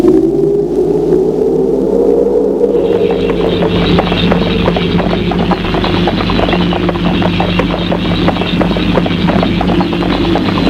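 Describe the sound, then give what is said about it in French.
After a few seconds, a saddled horse breaks into a gallop at night as its rider leaves: a rapid, steady drumming of hoofbeats, loud, over a sustained low droning background. No one speaks. “Elle est partie au galop.”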